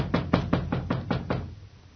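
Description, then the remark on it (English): A quick, steady series of about seven firm knocks on a door, evenly spaced, with no talking, fading into quiet. “Hey, Charlie, open up. It's me.”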